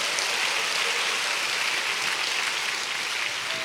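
audience applauding

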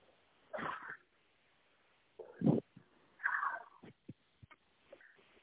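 human sneezing

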